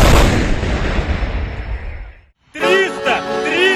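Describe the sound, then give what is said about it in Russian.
A loud artillery volley booms, its heavy rolling roar slowly fading over about two seconds. A brief silence follows, then a man starts talking. “Залпом! 333!”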